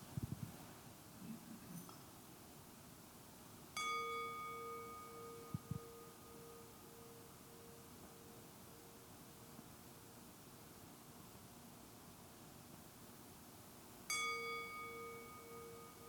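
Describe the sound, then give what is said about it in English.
A meditation bell is struck twice, about ten seconds apart. Each strike rings out clearly and hums on in a long, slowly fading tone over soft background hiss, with no talking. “So I want to invite you to just, along with me, listen to the sound of this bell.”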